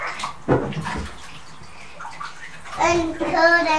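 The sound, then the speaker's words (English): Water splashes and pours into a bathtub from a cup, a steady trickle with a few sloshes, while a voice murmurs and whimpers briefly near the end. “Oh, I know, so kind of, let's get water.”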